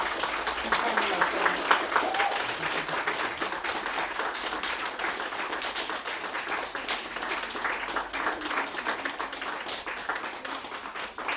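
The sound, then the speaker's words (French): An audience of relatives and friends applauds the performers steadily, a dense wash of many hands clapping at a constant level for over ten seconds, with no break or swell and no speech heard. “Et je vais vous demander maintenant à vous, qui êtes venu voir vos proches, vos enfants, votre père, je crois qu'il y en a qui sont venus pour leur père aussi, vos amis, vos cousins, vos cousines, à votre tour, du coup, les applaudir.”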